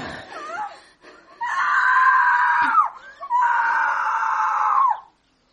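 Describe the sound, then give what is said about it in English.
A woman screams twice, each a long, loud, high-pitched wail lasting over a second, after a few brief strained vocal sounds at the start. “After Mademoiselle Zizi stopped screaming, a horrible calm lay over the house.”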